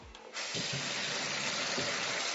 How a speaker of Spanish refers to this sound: Abro el grifo. Cierro el grifo. Bebo agua.